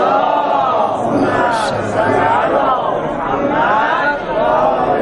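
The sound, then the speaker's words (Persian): A large audience of men chants salawat together in unison at a religious gathering on the night of the martyrdom of Imam Jawad, a loud, continuous swell of many voices rising and falling in rhythm for several seconds. “برای اینکه زنها باورشون بیاد این ور پرده مردا هستن، یه صلوات بفرستید.”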